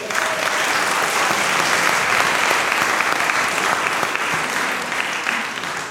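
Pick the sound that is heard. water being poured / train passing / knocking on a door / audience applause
audience applause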